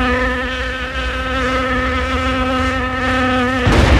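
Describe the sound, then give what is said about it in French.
A fly buzzes loud in a steady, droning whine that wavers slightly in pitch for several seconds, then abruptly breaks off into a brief burst of noise. “Ok, donc il n'y a que la mouche qui en est l'heureuse titulaire, néanmoins.”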